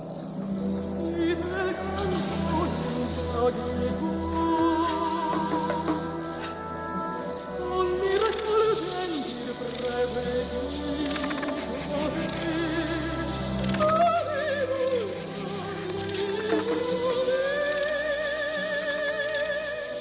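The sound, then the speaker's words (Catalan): A dense, continuous chorus of cicadas buzzing loudly and steadily for the whole stretch, with shifting, droning tones layered over a constant high-pitched hiss. “Cigales són, d'entrada, aquests insectes, no? Ho dèiem ara, que fan aquest renou tan particular.”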